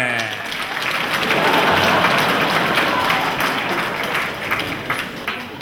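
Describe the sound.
Loud, sustained applause from an audience of soldiers welcoming a young girls' band onto the stage, many hands clapping at once, a dense steady crackle that swells slightly midway and tapers a little toward the end, with faint voices underneath.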